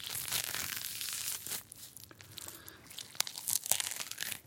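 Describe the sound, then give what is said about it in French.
Grapefruit peel being torn: a continuous wet, fibrous ripping with crackly bursts, growing busier and sharper toward the end with several brisk snapping tears. No voices. “Toujours pour utiliser la matière à fond, on peut aussi déchirer la peau du pamplemousse.”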